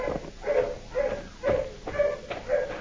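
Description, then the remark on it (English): Dogs bark and bay in pursuit near a swamp, getting closer, in a steady run of repeated calls, about two per second, sounding hollow, with no one speaking. “Dogs are getting closer”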